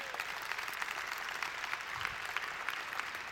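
A crowd claps steadily and densely throughout, a sustained wash of many hands applauding at moderate loudness with no pauses or talking.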